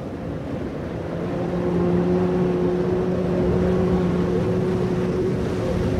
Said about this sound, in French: vous entendez la corne de brume?